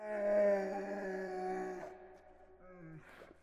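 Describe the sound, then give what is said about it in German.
A bear in its cave growls as it rushes at intruders, with a long, steady, droning groan, then breaks off into a shorter growl that slides downward in pitch. No one speaks. “Dieser gröhlte und eilte auf die Eindringlinge in seinem Bau zu.”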